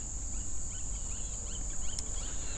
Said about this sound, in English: I hear lots of squeaky, squawky birds.